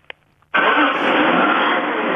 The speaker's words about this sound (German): Okay, also ich halte mal jetzt das Telefon Richtung Motor und starte, ja?